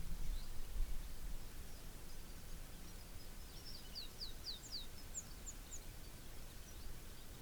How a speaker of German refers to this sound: Eine sah aus wie eine Meise, aber das kann täuschen. Ne? Es sind Kanarienvögel.